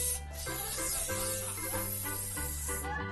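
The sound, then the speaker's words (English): A continuous hiss of a breath and body spray aerosol can spraying for about three seconds, fairly loud, with music playing steadily underneath. “So I spray my underarms? And use the same spray for my breath?”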